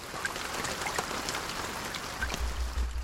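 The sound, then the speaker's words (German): Steady rain falls on the Schwegalp in Switzerland in a dense, crackling patter of countless drops, even, with a low rumble swelling in near the end. No voices are heard. “Weil auch auf der Schwegalp hat es, wie an allen anderen Orten der Schweiz, ein bisschen mehr geregnet als sonst.”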